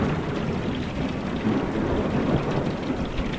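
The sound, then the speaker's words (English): Steady heavy rain pours down with a deep, rolling rumble of thunder underneath, a dense, continuous severe thunderstorm with no voices, striking the community of Bertram late on Monday evening, March 22, 2021, with extreme straight-line winds. “Late on that Monday evening, a severe thunderstorm crashed down on the community, thrashing it with extreme straight-line winds.”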